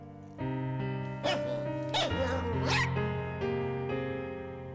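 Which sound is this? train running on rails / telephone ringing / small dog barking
small dog barking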